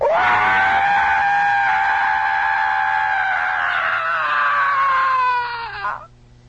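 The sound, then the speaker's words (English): A person imitates a long, loud horror-movie-style scream, a single high, strained wail held steady for about six seconds before it dips and cuts off. No other talking. “I heard this fantastic scream.”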